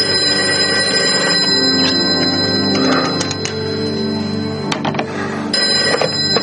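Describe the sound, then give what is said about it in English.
A telephone bell rings insistently in steady bursts in a motel room, its bright metallic trill filling the space, with a few soft thunks and handling knocks underneath and no voices. “Putting it back down, he reaches for the phone.”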